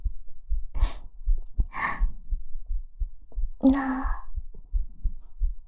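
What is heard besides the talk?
heartbeat heard up close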